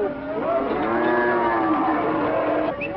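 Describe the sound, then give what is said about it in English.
A cow lets out one long, loud moo that holds steady for about three seconds, a rich, droning bellow with no voices around it. “They grew maize and kept cattle, brought their goats with them, and tended their long-horned oxen.”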